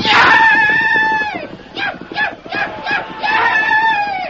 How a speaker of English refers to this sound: In the confusion, Tonto depended upon speed and his wild yells to be taken for just another Blackfoot brave.